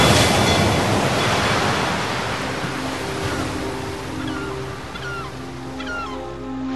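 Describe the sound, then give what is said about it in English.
Loud ocean waves roar and crash against rocks in a continuous wash of surf that eases slightly over several seconds, with faint tonal creaks and cries surfacing underneath as a ship goes down. No one speaks. “Captain, the waves are too much for us.”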